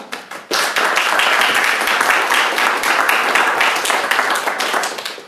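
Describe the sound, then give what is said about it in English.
A crowd bursts into loud, sustained applause for a speech given in Spanish, after a brief sparse start, with many hands clapping in a dense, continuous patter that holds steady throughout. “Actually, the speech is not finished yet, so you can hold your applause.”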